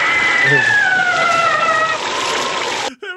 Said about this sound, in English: That was exactly the one. Exactly the scream.